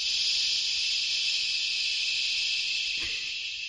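A Sleep Miracle baby shusher device plays a recording of somebody saying "shh," a continuous high, airy hiss like white noise for a baby that holds at an even level without pauses, with a faint click near the end and no talking.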